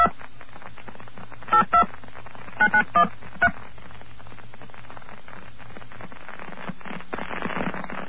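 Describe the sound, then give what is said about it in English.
A telephone number is dialed with touch tones to reach an operator: a quick series of short, evenly spaced beeps in two clusters over a low hum, followed by a burst of static. “Wait, I think I should dial the number first.”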